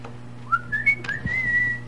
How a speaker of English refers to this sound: He's whistling. Yeah. He's whistling. I wonder what he's whistling.